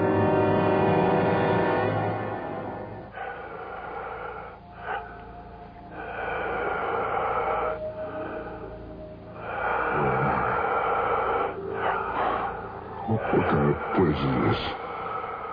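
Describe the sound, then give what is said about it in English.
Loud, ragged breathing and gasps fill the space, rising and falling in uneven surges with hoarse, snorting exhales and a low droning background. “It sounds like the whole room is breathing.”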